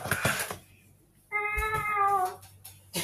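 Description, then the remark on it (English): A single drawn-out, tonal meow, loud, rises then fades over about a second, apparently voiced by a person imitating a cat, with brief rustling noises just before it. “Are you a cat?”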